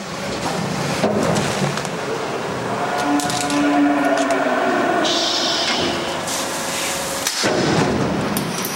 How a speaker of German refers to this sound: Rinder werden mit einem Bolzenschuss ins Gehirn betäubt. Der Schuss muss exakt an der richtigen Stelle, im richtigen Winkel erfolgen, so wie hier.